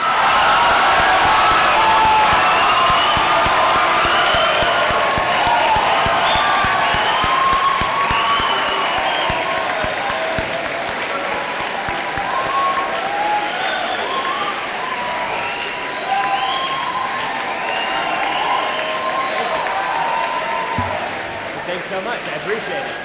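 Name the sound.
audience cheering and applause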